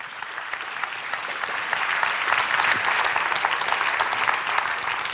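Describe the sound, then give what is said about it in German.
An audience claps steadily for about five seconds, a dense, even wash of many hands that swells slightly midway and stays fairly loud, with no voices over it, welcoming a speaker to a talk at Chaos West. “mit einem ganz, ganz herzlichen Applaus zu begrüßen.”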